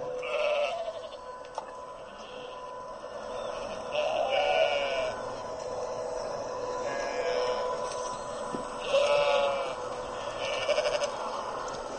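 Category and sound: animal, lambs bleating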